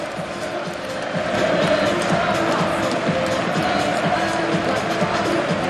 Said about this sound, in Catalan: I està la imatge de la semifinal, eh? Ni més ni menys. La grada cantant-li als jugadors i els jugadors aplaudint-li a la seva grada.